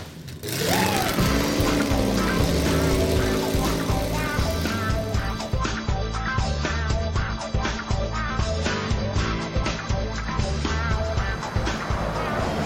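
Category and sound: vehicle, car engine driving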